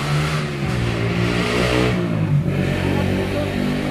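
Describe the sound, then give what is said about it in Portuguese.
A motorcycle engine revs loudly, its steady drone rising and dipping in pitch for a few seconds with no voices. “A pausa dramática da moto. Da motocicleta.”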